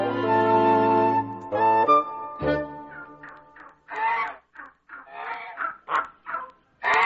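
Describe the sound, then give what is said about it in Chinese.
Geese honking at a goose farm: a few long, loud nasal honks at first, followed by a rapid string of short, harsh calls and cackles, with no one speaking. “隔壁福德养鹅场的母鹅却仍然按时下蛋。”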